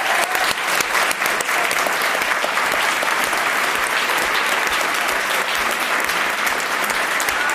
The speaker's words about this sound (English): So you're already doing it, but let's give a big round of applause to our panelists.